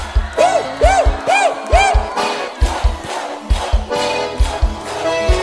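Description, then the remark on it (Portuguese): A live crowd at a forró party, recorded for a live CD, shouts and whoops, with four quick rising-and-falling whoops early on, then a broad wash of cheering voices, all over a steady pounding bass beat. “É ao vivo mesmo, olha o gritinho.”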